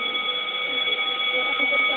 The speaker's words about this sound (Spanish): Justo tocó el timbre. Yo la atendí porque empezó a sonar, pero... Porque sonaba el teléfono vivo. Porque era raro que suene.